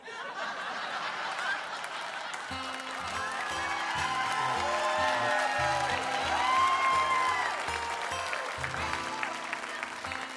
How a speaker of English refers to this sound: people just clapped for that right now.